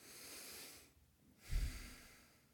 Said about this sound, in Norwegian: Trekk pusten dypt en gang.